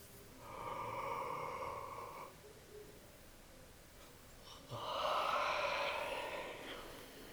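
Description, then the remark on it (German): Two long, breathy yawns made as part of a yawning and stretching exercise, the first lasting about two seconds and the second, louder and fuller, following after a short quiet pause. No one speaks. “Dann ein zweites Mal gähnen und ganz langsam strecken oder dehnen.”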